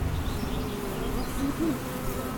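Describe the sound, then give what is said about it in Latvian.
Honeybees buzz steadily at the hive while making bee bread and drying honey, a dense, continuous low hum of many wings with slight wavering pitch, filling the whole moment without any talking. “Bišu maize taisīt, kad nostājās šinī vietā, tu tiešām likās tas bišu rūpnīcā.”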